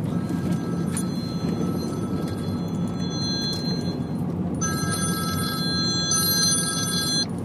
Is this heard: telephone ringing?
yes